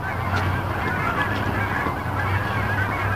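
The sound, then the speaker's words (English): A flock of geese honking continuously, many overlapping calls from several birds, with a steady low hum running underneath. “Holy geese. I don't know if you can hear it or not, but it's lovely.”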